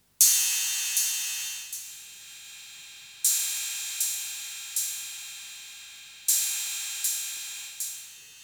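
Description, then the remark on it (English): Harsh, buzzy high-pitched square-wave tones from a hex Schmitt trigger oscillator chip circuit, their pitch set by the resistor and capacitor values, entering in repeating groups of three sharp onsets that each fade slightly, with a hissy, noisy edge and no voices. “It just depends on the resistor and the capacitors and the threshold of the hex Schmidt trigger oscillator chip.”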